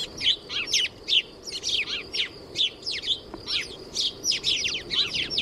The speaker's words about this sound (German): Wir haben nämlich eine Vogelstimme, also eine Spatzenstimme dabei.